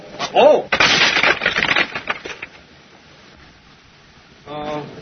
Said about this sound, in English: Pebbles. Pebbles? What for? Well, I've heard that if you throw pebbles up against the window, the people think it's hail and then they come and close the window.